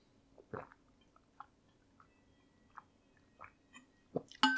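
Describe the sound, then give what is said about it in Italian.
Someone sips and swallows water: a few soft, wet gulps and mouth clicks spaced irregularly over a quiet background, ending with a louder breathy burst. “Fammi bere l'acqua e poi vi parlo dell'ultimo film.”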